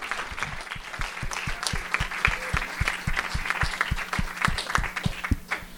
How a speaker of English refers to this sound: Give our speakers another big round of applause. Thank you so much.